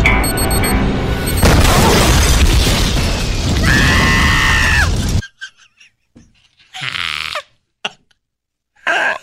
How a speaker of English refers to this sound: I didn't tell you to scream at the end, but I'm glad you added it in.